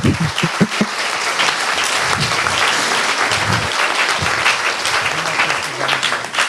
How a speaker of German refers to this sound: Ich würde mal bitten, dafür auch einen Applaus für die schönen Bilder.